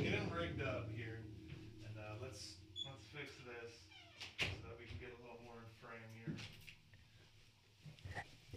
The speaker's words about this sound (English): Close that door, too. Close the door.